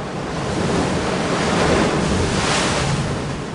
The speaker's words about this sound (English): Out at the tip of Punta Tombo, a spit of old lava juts into the sea. A blowhole in the rock collects the surf and casts it up into the air, like a metronome keeping geologic time.